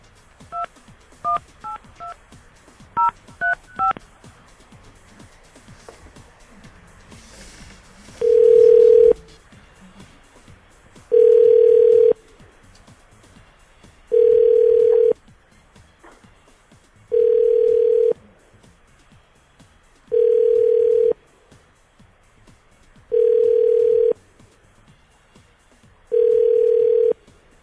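A quick run of keypad dialing beeps opens as a call is placed to a man's wife, then a steady ringback tone sounds in seven even bursts, about three seconds apart, fairly loud and clear with no talking.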